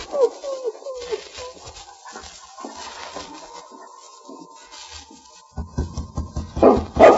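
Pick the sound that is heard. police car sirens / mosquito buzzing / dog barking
dog barking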